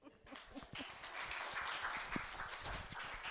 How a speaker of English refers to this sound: Well, I'm glad you're applauding before I give my talk.